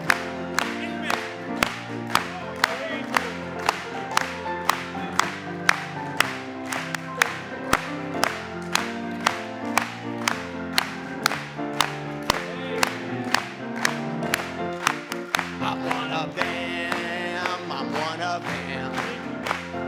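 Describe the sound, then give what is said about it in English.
A church audience claps in praise of the Lord in a steady, even rhythm, sharp beats roughly every half second, over sustained singing and instrumental music that fills the background throughout. “Let's clap it to him one more time.”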